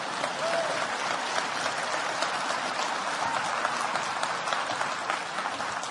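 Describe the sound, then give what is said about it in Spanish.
An audience claps steadily for several seconds, a dense, even wash of many hands that holds at the same moderate loudness throughout without building or fading. “Echen un aplauso en lo que está un poquito de agua.”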